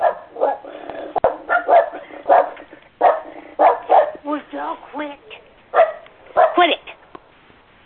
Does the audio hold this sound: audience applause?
no